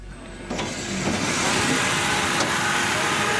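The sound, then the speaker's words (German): Steady sawmill machinery drones and whirs at the Brühwiller sawmill in Hinterthurgau, Switzerland, with a motor hum rising after the first half second and brief mechanical clunks punctuating the continuous noise as thick logs are hoisted onto a conveyor. “In der Sägerei Brühwiller im Hinterthurgau herrscht Hochbetrieb. Dicke Baumstämme werden auf ein Förderband gehievt.”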